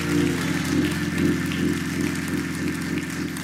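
An audience gives the Lord a hand clap of praise, a dense, steady crackle of many hands lasting several seconds, with sustained low organ-like chords droning underneath and no speech.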